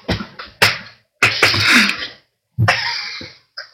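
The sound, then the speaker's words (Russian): Several sharp, loud slaps on bare buttocks, each a crisp smack followed by a brief rustling tail, spaced irregularly across a few seconds with short silences between them. “Меня шлепнули по заднице, но я не расстроился.”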